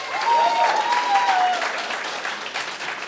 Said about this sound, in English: That crowd, that applause is going to shift.